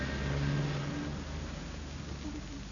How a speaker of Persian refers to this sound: گربه ها و موش کوچولو بیدرنگ عقب ماشین پریدن و از شانس خوبی که داشتن ناگهان متوجه شدن که سوار یک کامیون حمل شیر هستن.